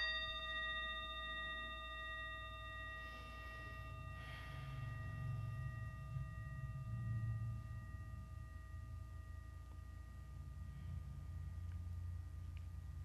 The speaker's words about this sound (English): Well, I have this, which I'm calling it, this is the well bell. It's telling you all is well, all is well, and all manner of things shall be well.